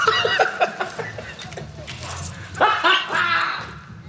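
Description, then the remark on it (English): A van's car alarm blaring out a string of loud, high-pitched dog barks and yips, repeating in quick bursts with a short pause before a second volley, prominent. “I spent my life savings turning my van into a dog. Hi, Petey. The alarm alone cost me $200.”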